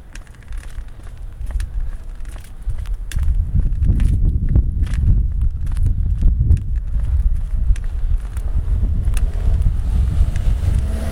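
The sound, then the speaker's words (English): Strong gusty wind buffets the microphone of an Olympus recorder outdoors, a deep, rumbling roar that swells after the first few seconds and stays loud and turbulent throughout, with no one speaking. “Oh wow, okay, it's getting really windy. I think I have to go inside now.”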